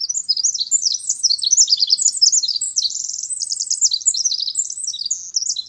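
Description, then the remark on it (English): A songbird sings in late winter a long, rapid, continuous song of high, tumbling trills and chirps, bright, with no pauses across the whole stretch and no voices. “Some birds don't wait for spring before they start singing.”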